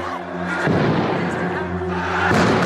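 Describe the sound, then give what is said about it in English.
Two heavy bomb explosions boom a couple of seconds apart at a religious festival in Iraq, each a broad, rumbling blast rising over a steady background with raised voices and the commotion of a panicking crowd. “We counted at least 6 separate explosions.”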